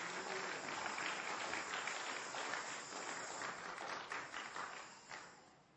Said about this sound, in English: Praise the Lord. Give the Lord a hand clap if you understand that. Praise the Lord.